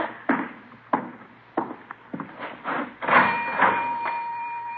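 A cash register opens with a series of sharp mechanical clunks and clicks, then a bright bell rings and lingers while coins rattle faintly as a dime is put in and two nickels are taken out for change for a payphone.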